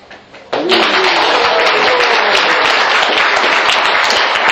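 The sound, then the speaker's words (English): A group of people in a building bursts into sustained applause, many hands clapping together in a dense, steady patter that starts abruptly after a brief quiet moment and stays loud throughout. “I hope this clapping will not disturb the others in the building.”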